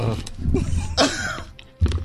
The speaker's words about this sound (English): You wanna hear the crunch? Yeah. Alright, let's go get nine up nice and close to that microphone.